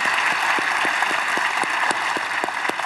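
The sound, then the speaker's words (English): Steady applause from a church audience welcoming everyone joining the service across four locations, a dense wash of many hands clapping at once with a few sharper individual claps standing out, fairly loud and continuous throughout with no voices. “And so now, all of you, if you wouldn't mind, by applause, would you just help me welcome everybody that's joining us today as we are one church in four different locations.”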